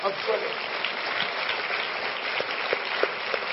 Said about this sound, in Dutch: But can we give him 30 seconds of praise? Maar zullen we hem 30 seconden? Can we give him praise? Come on, let's clap. Zullen we let's danken, give him klappen. 30 seconden.